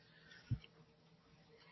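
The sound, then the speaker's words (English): A brief low throat-clearing grunt, then after a quiet pause a sudden, louder cough that cuts off at the end, with no talking. “Excuse my cough today, please.”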